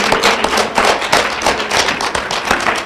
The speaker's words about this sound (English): And we have a great crowd of faithful Liberty Fellowship believers and hardy Montanans that are here for our Bible study. Give yourselves a hand. Let them know you're here.